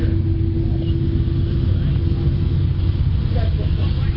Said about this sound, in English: For train watchers, Hackman Field is pretty good. Marshfield sees a lot of railroad traffic, and that's what we have going behind us right now again.